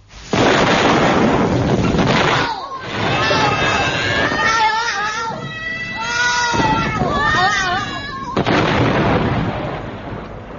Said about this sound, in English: This is the Flibby-Dabby-Dee service of the BBC. The John capsule was today exploded and went bang.